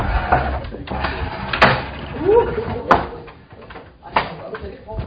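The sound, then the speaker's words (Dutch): A door is pushed shut, with a couple of sharp wooden thuds and clicks as it closes, while people murmur and talk faintly. “Nou ja, goed, hij is dicht.”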